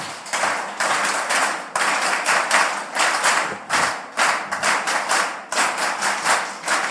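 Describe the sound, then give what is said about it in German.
Steady rhythmic hand clapping from an audience clapping along so singers can join in with a song, sharp bright claps repeating in an even beat with brief pauses between phrases, loud and with no voices. “So, Sie fangen bitte an mit dem Klatschen und wir setzen dann ein.”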